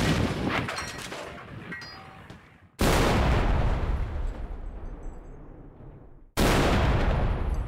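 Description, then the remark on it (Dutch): Three loud cannon blasts in succession, each a sudden booming onset followed by a long rumbling decay, with no talking in between. “Ik denk dat wij onze meester kanonier... het is aan jou,”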